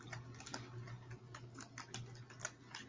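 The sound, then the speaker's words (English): Soft, irregular keystrokes clatter, a steady stream of light clicks like someone typing on a keyboard, over a low background hum with no voices. “We can hear you typing.”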